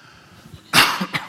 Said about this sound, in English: So once again, I have this wonderful little cough this morning. I'm sorry. And it's very hard to talk when you're kind of trying to throttle a cough.